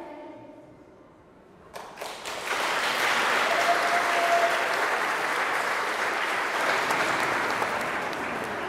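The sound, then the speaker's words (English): An audience of children and families in a local school hall on the first school day bursts into applause after a brief quiet moment, the clapping swelling quickly into a loud, steady, dense patter that holds for several seconds. “Once the applause has died down, the newbies go up onto a stage where they're photographed before being ushered into their classroom for a half hour of meeting the teacher.”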